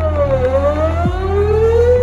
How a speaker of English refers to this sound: This is why we use low frequencies anytime we need a sound to travel as far as possible, like a foghorn. Or like a sweeping tornado siren.